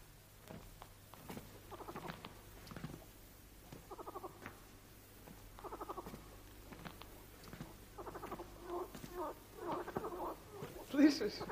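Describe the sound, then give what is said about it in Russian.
Frogs croaking in spring: a chorus of buzzy, rapidly pulsed calls repeating every couple of seconds, some overlapping and swelling louder toward the end, over a steady low hum. “Слышишь? Лягушки проснулись. Тепло, значит, идет. Они чуют, вот и кричат.”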